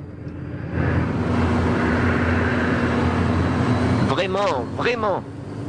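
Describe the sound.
A rented jet airplane taxis to park after landing, with a steady, loud engine roar and a faint high whine that starts after a second and holds throughout; a voice briefly speaks over it near the end.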